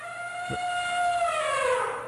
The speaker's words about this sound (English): I always liked elephants. There's something about their cry that cuts through, touches me. Listen to it for a minute. Isn't there something about an elephant's cry?